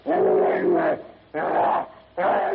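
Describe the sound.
A savage, guttural howl of rage bursts out in three loud snarling roars, the first longest, each separated by a brief pause; it sounds like a human voice imitating a beast: a gigantic half-human brute crashing to its knees while fighting Tarzan.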